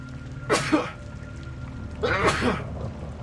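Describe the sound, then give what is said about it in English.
Two sneezes, one after the other with a pause of over a second between them, close and fairly loud against a faint steady background hum. “Oh, he said bless you, right? Thank you.”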